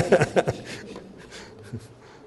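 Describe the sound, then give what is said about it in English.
Warm water trickles and splashes as it is poured into a container, opening with a couple of louder sloshing bursts before settling into a softer, steady pour that fades toward the end. “And that is water. Now, this is warmer water, so hopefully it'll set a bit quicker.”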